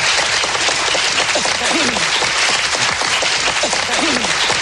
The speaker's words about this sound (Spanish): Un aplauso para el ministro, para estos amigos míos.